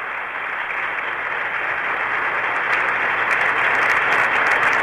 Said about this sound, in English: Standing ovation now from the crowd of several hundred people assembled.